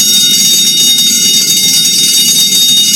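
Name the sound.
fire alarm bell ringing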